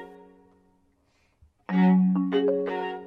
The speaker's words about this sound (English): So it partnered with the Detroit Symphony Orchestra to create chimes in the new Aviator that provide alerts for about 25 features in the vehicle. Here's Symphony members recording a chime if you left the parking brake on.